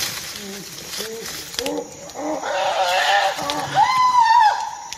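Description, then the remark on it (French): Chimpanzees screaming: a run of short hooting calls that climb steadily in pitch and intensity, building into loud, shrill, sustained screams at the end. “Ce qui est assez incroyable chez les chimpanzés, c'est que quand on les entend crier comme ça, on a l'impression qu'ils sont violents.”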